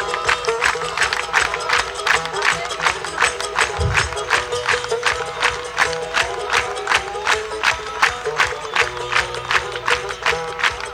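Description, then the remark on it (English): An audience claps together in a quick, steady rhythm, clapping as fast as they can, sharp unison claps landing two or three times a second without letting up for the whole stretch. “Now clap me some rhythm just as fast as you can.”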